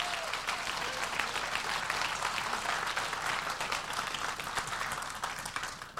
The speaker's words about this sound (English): I think you're being a demagogue. Why? Because some people are clapping?